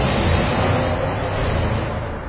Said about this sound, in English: Don't know if you heard that, some type of car, a V8 must have gone past, made a bit of noise.